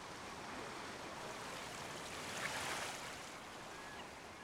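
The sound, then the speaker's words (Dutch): Gentle water laps and sloshes in a steady, soft wash, with a slight swell midway and no voices, like small waves, with small toy sailboats made from old plastic bottles bobbing on them. “Zachtjes drijven ze mee op de golven.”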